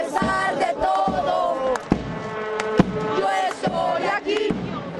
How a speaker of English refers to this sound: At that preseason game, which Chivas USA lost 1-0, fans sang a standard cheer in Spanish, vowing to keep the faith.